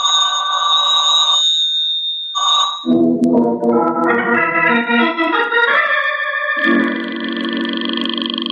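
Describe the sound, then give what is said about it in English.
A telephone rings loudly in two bursts with a short pause between them, then swelling music takes over and builds in pitch. No one speaks. “Don't touch that phone. Let it ring.”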